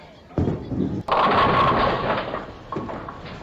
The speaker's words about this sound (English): You knocked over 8 pins, leaving 2 pins standing.